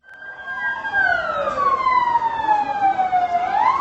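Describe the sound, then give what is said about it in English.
A loud ambulance siren wails, its pitch sliding slowly down then rising again, over a steady rumble of traffic, as ambulances rush the wounded to hospitals across Gaziantep after a suicide bombing at a wedding. “All through Saturday night, ambulances rushed the wounded to hospitals across Gaziantep.”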